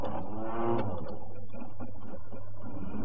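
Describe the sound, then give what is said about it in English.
A vehicle engine whines and turns over, then settles into a steady low rumble that carries on for a few seconds, moderately loud, with no one talking. “Now start the engine.”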